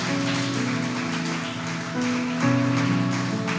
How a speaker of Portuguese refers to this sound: Você pode se colocar de pé e aplaudir bem forte o nosso Deus. Aleluias!